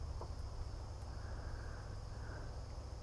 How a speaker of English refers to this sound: I like hearing crickets early in the morning.